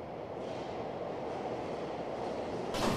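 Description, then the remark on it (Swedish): A Stockholm subway train heading to Liljeholmen, southwest of Stockholm, rumbles steadily along the rails, a dense continuous roar, with a brighter hiss swelling near the end as it picks up speed or screeches. “Själv tar jag tunnelbanan till Liljeholmen, sydväst om Stockholm.”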